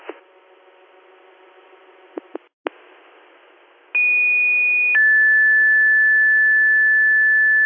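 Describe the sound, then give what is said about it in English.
Radio static with a few sharp clicks, then a loud fire dispatch paging tone sent again to Bath Fire in the Town of Bath for more manpower at an automatic fire alarm call: a steady higher pitch for about a second, shifting to a lower sustained tone that holds to the end. “Can you give me another tone?”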